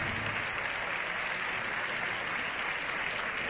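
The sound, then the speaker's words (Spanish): The Socialist Group in the parliamentary chamber applauds the PSOE secretary general steadily, dense overlapping claps forming a continuous, even wash of sound throughout, with no voices standing out above it. “Aplausos del Grupo Socialista al secretario general del PSOE, que aplaude a los socialistas también”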